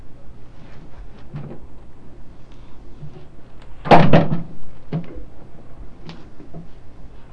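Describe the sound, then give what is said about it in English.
A single bathroom door swings and bumps shut, a short burst of wood-and-latch noise standing out against quiet surroundings with faint scattered knocks. “There's the bathroom door.”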